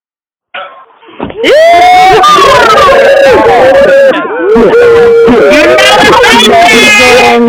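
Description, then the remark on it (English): A group of voices on an unmuted call line on a Wednesday morning erupts into loud, overlapping cheers and whoops, sustained for several seconds at full volume, with a slightly compressed, phone-line quality. “You're taking the road less traveled, and that, I think, deserves a big cheer.”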